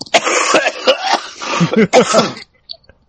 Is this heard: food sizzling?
no